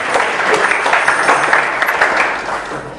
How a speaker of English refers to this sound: Can we all give Guru Maharaj his final round of applause?